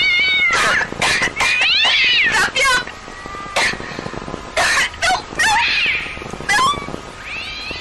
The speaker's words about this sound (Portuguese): Você tá rindo, a menina tá com coisa na janela, o gato tá miando, você deu risada, pega os gatos e corre, tá errado.